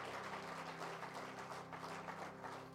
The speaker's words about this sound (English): And just before you're seated, would you clap your hands one more time unto the Lord today?